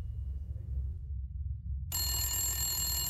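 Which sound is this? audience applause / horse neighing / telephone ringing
telephone ringing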